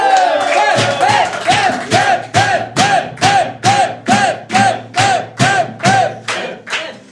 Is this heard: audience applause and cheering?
yes